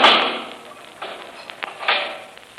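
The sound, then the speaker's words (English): A heavy steel door swings shut with a loud booming slam, followed by a few sharp metallic clunks as it is bolted and locked, with no voices. “You can lock that steel door, Kelvin.”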